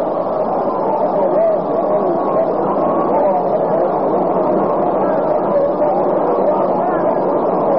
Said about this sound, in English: Well, it's a great opening day crowd here. The total is now posted on the scoreboard. 50,312. Total attendance at this ballpark for opening day.